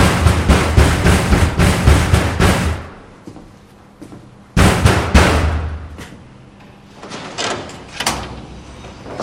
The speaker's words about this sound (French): Ça fait 5 minutes qu'on frappe.